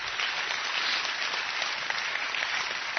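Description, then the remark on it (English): A crowd applauds in a steady, dense wash of clapping that holds at an even loudness for about three seconds, with no voices on top. “I think that deserves an incredible round of applause.”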